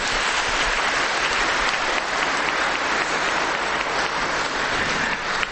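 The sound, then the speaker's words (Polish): Sustained applause from an audience at a Mass, welcoming visiting sisters from Zambia who are about to sing: a dense, steady roar of many hands clapping at an even loudness for several seconds, with no voices standing out. “Witamy serdecznie oklaskami siostry.”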